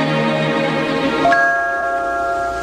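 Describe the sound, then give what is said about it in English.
A bell rings with bright, sustained tones, and a fresh strike about halfway through sets off new chiming partials that hang and slowly fade. No one speaks. “it says every time a bell rings, an angel gets his wings.”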